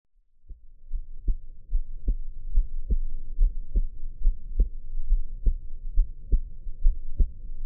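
A steady heartbeat heard up close through a chest, deep muffled thumps repeating regularly about every second and a half over a low, dull rumble, with no voices.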